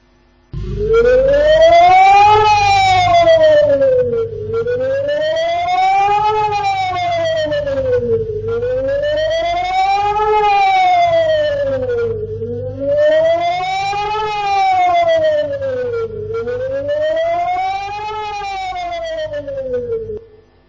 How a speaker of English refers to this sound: Now, have you considered this as we talk about air raid sirens? You see, usually it is the defenders that sound the air raid siren to tell the people, go, hide. Air raid is coming, correct?